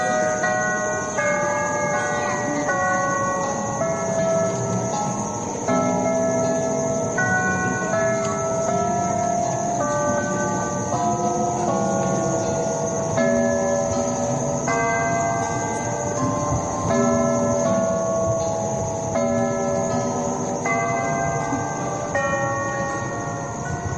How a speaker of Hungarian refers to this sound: kitalálta Klebersberg ezt a zenélő órát, ami megint egy sajátos műfaj, és amit egy kiváló szegedi órásmester, Csúri Ferenc készített.